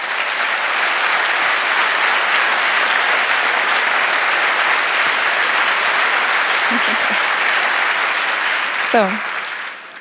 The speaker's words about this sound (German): Ich würde sagen, allein dafür hat er euren Applaus verdient.